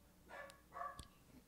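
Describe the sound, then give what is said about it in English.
Pet dogs bark twice in quick succession, each bark a fairly high, harmonic yelp, fairly faint, followed by a short sharp tap. No one speaks. “My dogs are barking in the background.”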